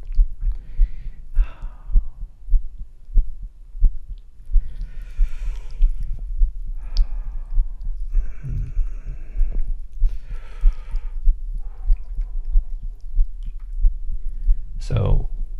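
Stomach gurgles picked up through a stethoscope: squelchy, bubbling digestive rumbles come in several uneven bursts over a steady, muffled heartbeat thumping underneath.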